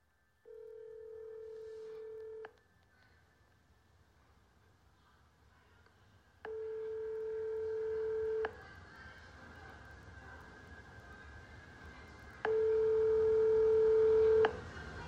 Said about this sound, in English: Sweet Angel Child Care in Minneapolis, Minnesota. Now, listen to where this phone number goes to when you call this child care center.